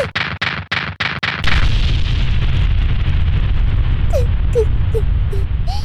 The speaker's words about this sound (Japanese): いくら勇者といえども、所詮は人間。最上級攻撃魔法の嵐を食らって消し飛んだか。